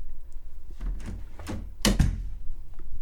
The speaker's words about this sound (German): Mina öffnete die Tür.